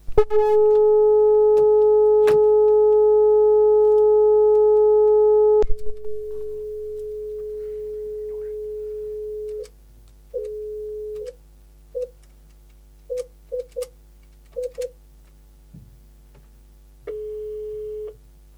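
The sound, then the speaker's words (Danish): Telephone tones on an outgoing call to a former radio station employee: a long, steady electronic tone, then a plainer continuous tone, then a series of short, irregular beeps. Clear, with no voices. “Med at ringe til den tidligere medarbejder på Radio U”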